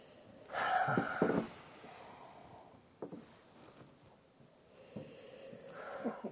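Loud sniffing of an amber beer's aroma: a long drawn-in sniff, a short quieter one midway, then another strong inhale at the end, with no talking.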